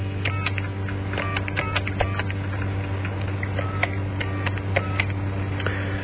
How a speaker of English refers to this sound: No, I've lost that guy because this is the worst phone system in the world, as I have explained to you before. And you have to press about 56 different buttons on the various sites around the studio just to get a line out.